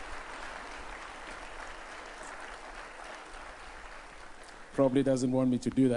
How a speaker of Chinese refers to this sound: 让我们鼓掌为我们的牧师。